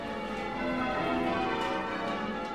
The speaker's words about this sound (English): Nearly all church bells are made out of a bronze, and that's what gives them their distinctive tone and sound.